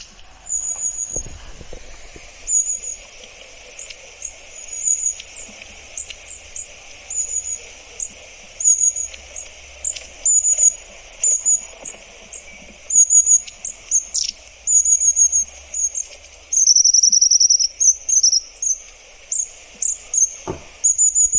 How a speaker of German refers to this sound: Und man hört sie auch oft als erstes, wenn sie so hinein einfallen im Garten zum Beispiel. Ja. Dann hört man sie. Soll ich mal abspielen? Ja, mach doch mal bitte. Die Schwanzmeise. Ja.